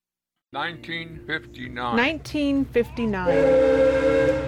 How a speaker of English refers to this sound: 1959. This is Juno Cold Storage. 4 large buildings on pilings. They're blasting the whistle announcing that it's break time.